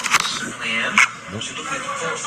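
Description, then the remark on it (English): A woman grinding her teeth in her sleep: a run of gritty, creaking scrapes with two sharper clicking bursts standing out, fairly quiet and continuing unevenly for a couple of seconds. “That's her grinding her teeth.”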